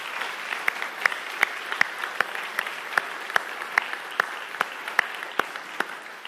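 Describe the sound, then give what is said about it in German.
Warm farewell applause from a church audience on a Sunday for a departing member, a steady patter of many hands with sharper individual claps standing out, sustained at moderate loudness with no voices over it. “Also, wir verabschieden dich mit einem ganz herzlichen Applaus.”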